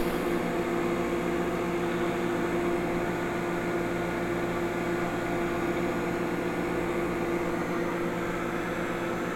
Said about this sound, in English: I'll close the oven, and I will say, Nazaman. Microwave for 20 seconds. Microwaving for 20 seconds. Now you have to admit that's cool.